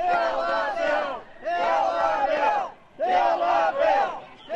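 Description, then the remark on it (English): Tea Party protesters outside the Capitol chant loudly in three rhythmic bursts, many voices shouting together with brief pauses between each surge. “Tea Party protesters, some slinging slurs, shouted outside the Capitol.”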